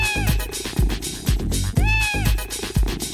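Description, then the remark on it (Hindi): A cat meows twice, drawn-out and rising then falling, over a steady thumping musical beat; no one speaks. “बिल्ली मौसी आ जाएगी, झट से मुझको खा जाएगी।”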